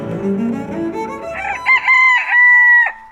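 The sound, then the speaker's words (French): A single rooster crows loudly, a long rising cock-a-doodle-doo that holds a strained high note before breaking off, with no talking over it. “Et la couette de coq ? En général, elle fait chier les gens à 6h du matin, voire même bien avant.”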